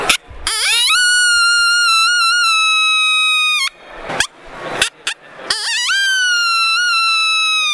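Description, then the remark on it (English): A voice imitates a lone coyote howl: a high, loud note swoops upward and holds steadily for about three seconds, breaks into a few short yips, then rises into a second long howl. “A lone howl on a coyote would be a howl that says, "Hey, I'm out there. Is there anyone else out there?"”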